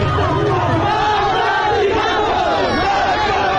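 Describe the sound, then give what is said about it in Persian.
A large crowd of protesters in the streets of Zahedan, Iran, on a Friday shouts slogans in unison, including "death to Khamenei" and "death to the IRGC", a dense roar of many voices rising and falling in rhythmic chants, loud and continuous throughout. “این جمعه هم فریاد مرگ بر خامنه‌ای و مرگ بر سپاهی خیابان‌ها را پر کرده بود.”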